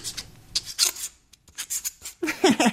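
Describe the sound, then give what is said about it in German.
A handmade calligraphy pen, a "Cola-Pen" cut from a cola or beer can, scrapes and squeaks across paper in short bursts as someone writes with it at a calligraphy workshop. It makes high, scratchy rasps and a few brief pitched squeals toward the end. “Der Cola-Pen quietscht.”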